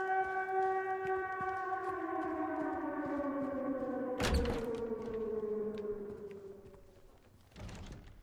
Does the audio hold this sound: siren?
yes